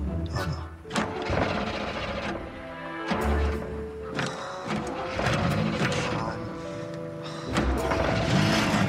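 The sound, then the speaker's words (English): A car starter grinds and whirs in several loud bursts as someone tries to start the car after it came to a stop, the engine cranking over and over without catching, with mechanical clunks between attempts. “Tries to start the car.”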